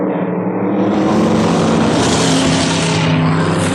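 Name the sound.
cars speeding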